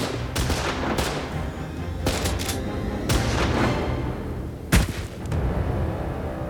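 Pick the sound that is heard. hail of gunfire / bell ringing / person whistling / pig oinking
hail of gunfire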